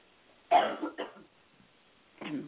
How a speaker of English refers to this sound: And I'm just going to clear my throat 1 second.